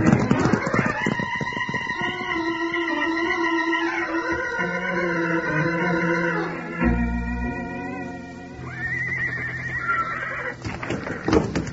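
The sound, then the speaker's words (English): Several loose draft horses being rounded up whinny loudly with long, wavering, high-pitched neighs that overlap, while a clatter of hoofbeats runs underneath and bursts out strongest at the start and end. “All my draft horses are loose.”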